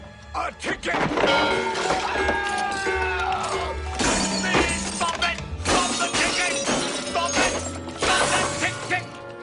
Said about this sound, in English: And so he starts smashing clocks. He starts taking steps that show that he's angry at his father. Take a look at this scene from the movie Hook.